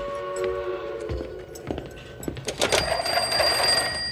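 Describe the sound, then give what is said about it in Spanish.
A telephone at a prison rings as a guard goes to it to raise the alarm, with steady, bright tones that shift higher partway through, joined by scattered clicks and clatter; no one speaks. “Un policía sube a la torre de control y avisa al guardia que se dirige al teléfono para dar aviso.”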